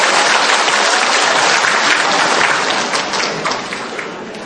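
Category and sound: crowd, audience applause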